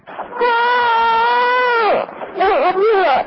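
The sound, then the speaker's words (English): A recording of a four-month-old baby crying loudly in two bursts: a long, sustained wail that falls off, then a shorter, wavering cry after a brief pause. No other voices are heard. “Well, all I heard was a child crying, but...”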